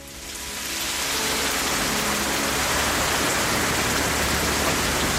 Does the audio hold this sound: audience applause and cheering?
no